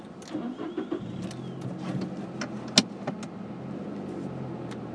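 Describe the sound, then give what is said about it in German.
A car engine cranks and starts on a windy, stormy day, then settles into a steady low idle, with a few sharp clicks and one loud knock partway through; no one speaks. “So, ich muss mal kurz unterbrechen, weil ich hier starten musste. Auto an, Musik aus und ja.”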